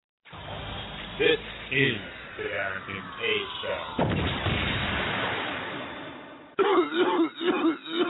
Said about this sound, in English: Like you got a nasty cough.